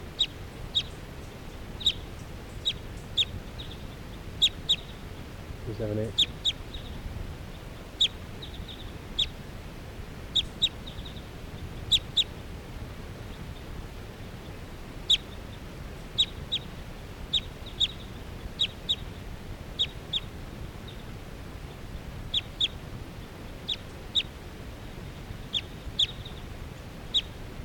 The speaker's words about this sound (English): That one wild bird that was just calling came back in. This is still 378 calling. Circling. Wild birds here.